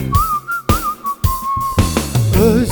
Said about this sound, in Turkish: İnceden bir ıslık çalacaksın.